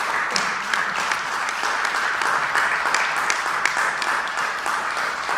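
An audience applauds steadily in thanks for a colleague's work for the FST, a dense wash of many hands clapping at an even level throughout, with no one speaking over it.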